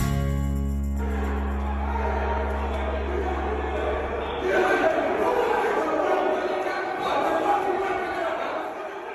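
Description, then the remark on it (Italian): A chaotic crowd storming the U.S. Capitol in Washington: a dense roar of many shouting voices, with a low droning rumble under the first half before the clamor swells and stays loud throughout. “Suoni in sottofondo, li avete riconosciuti, scene caotiche ieri a Washington con il Campidoglio preso d'assalto da una folla che è riuscita a penetrare in quello che è considerato il tempio delle istituzioni democratiche degli Stati Uniti”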